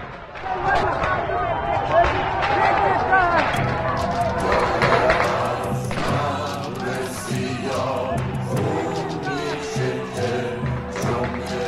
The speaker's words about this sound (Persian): نمازگزاران معترض در برابر کلانتری 16 زاهدان تجمع کردند و جمهوری اسلامی که برای چندمین بار در 4 دهه گذشته زاهدان را به خاک و خون می‌کشد. گاز اشک‌آور، تیراندازی به سوی معترضان.